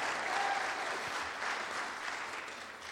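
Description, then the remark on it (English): A church audience, asked to give one clap as praise, claps steadily, a dense, continuous wash of many hands that fills the whole stretch at an even, fairly loud level, with no talking over it. “Okay, give me one clap.”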